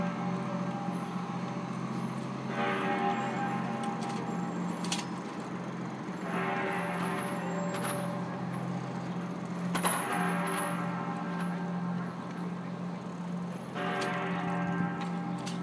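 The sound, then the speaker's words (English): The clanky tower bell of the Jefferson Market Library tolls four slow strikes at 6 o'clock, each a metallic clang that rings out with a lingering harmonic tail, over a steady low rumble of street traffic on 6th Avenue. “And there's the clanky sound of the Jefferson Market, Jefferson Library bell.”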